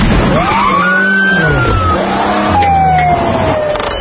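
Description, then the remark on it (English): A car engine revs hard and roars past at speed, its pitch rising and falling, while a wailing siren-like tone sweeps overhead throughout. Loud, with no talking. “Was I going a tad fast, officer?”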